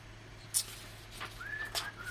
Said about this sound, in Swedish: Jag sitter och visslar